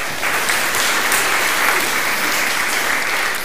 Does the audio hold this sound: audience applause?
yes